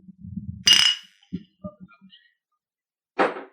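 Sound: glasses clinking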